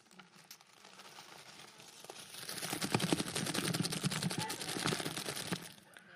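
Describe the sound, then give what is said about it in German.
Rustling and crinkling of plastic packaging as someone rummages in a carrier bag to bring out a pack of gingerbread, continuous, growing busier and louder after a quieter start before stopping abruptly. No one speaks. “Und jetzt kommt das Größte, was ich in meiner Tüte mitgebracht habe.”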